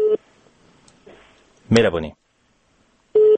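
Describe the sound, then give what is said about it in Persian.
Two short, steady telephone line tones sound clearly as a radio call-in listener is connected by phone, one at the very start and one near the end, with a brief burst of a voice and faint line hiss in between. “بریم شنونده ها را بگیریم از طریق تلفن، اونا چه نظر دارند.”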